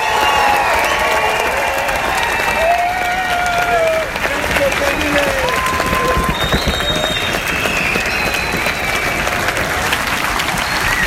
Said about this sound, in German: Und zum Abschluss gibt's noch einen Ausschnitt vom Applaus eines begeisterten Publikums zum großen Finale der Gala. Premiere.